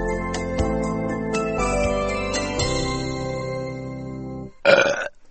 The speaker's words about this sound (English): Burping at the table is bad manners.